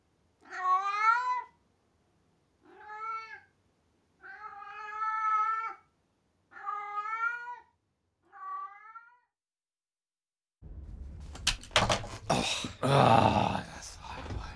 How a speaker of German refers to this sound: Die Katze ist das. Nein, das ist sie nicht. Vielleicht ist das auch einfach irgendeine Katze. Aber süß ist sie. Sehr süß.